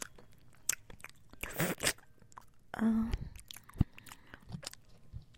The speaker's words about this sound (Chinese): 姐姐吃一口，你吃一口，我们两个一起吃一个果冻，好不好？啊！我先咬一口，